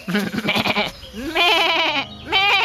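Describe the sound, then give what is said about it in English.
A goat bleats loudly, several wavering, nasal cries in quick succession over about three seconds, with no talking. “It's okay for you, goats.”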